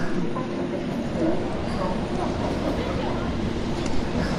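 A somewhat crowded subway train rides along with a steady rumble, its carriage shaking with low, uneven jolts and rattles that continue throughout.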